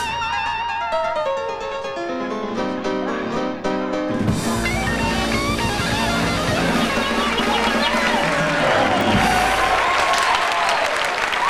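Piano notes play alone at first, then a fuller, louder band kicks in and a dancing crowd claps along in rhythm, the steady applause-like clapping mixing with the music throughout.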